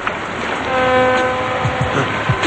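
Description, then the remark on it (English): A water taxi sounds its horn in one long, steady blast over a rumbling background of engine noise and water, with a few low knocks as it fades at the end. “The water taxi appears on the horizon.”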